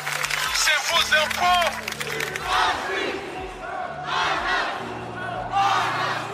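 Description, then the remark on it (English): A large protest crowd in London chants and shouts in loud, rhythmic bursts, voices rising together in waves roughly every second or two, with a steady low rumble and scattered cries underneath, at a peaceful Sunday march condemning police violence and demanding justice for George Floyd. “Mass peaceful protests in London to condemn police violence Sunday.”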